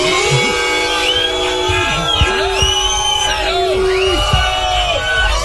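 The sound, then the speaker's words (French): A loud crowd boos and whistles continuously to welcome Fabrice Eboué, with long sliding whistles rising and falling over low, drawn-out hoots and jeering shouts, sustained without a pause for several seconds. “Bon, mesdames, messieurs, je vous demande d'accueillir sous les sifflets, les ouh, une personne que je peux pas saquer, hein, qu'on peut pas saquer.”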